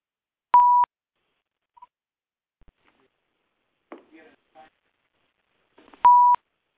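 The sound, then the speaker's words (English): Two short, steady telephone keypad tones sound clearly as a phone is unmuted, one near the start and another near the end, separated by quiet stretches with faint, muffled clicks and rustling in between. “I'm going to unmute the phone.”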